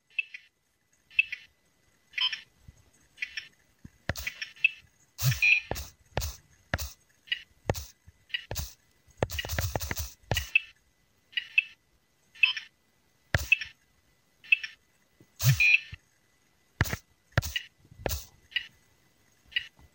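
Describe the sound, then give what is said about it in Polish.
Beeps from a retro handheld egg-catching game in which a wolf catches eggs: steady, rhythmic high-pitched electronic blips at a ticking pace, with sharper clicks scattered throughout and a brief buzzy burst midway. No one speaks. “Tak, to oczywiście wilk, który łapie jajka, a jak nie złapie, to jest to plaś i były chyba jak to w grach trzy próby do podjęcia.”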